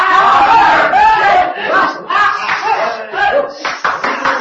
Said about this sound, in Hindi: शोर सुनकर चील घोंसले से उड़ गई। सौदागरों का शोर मेरे करीब आता गया।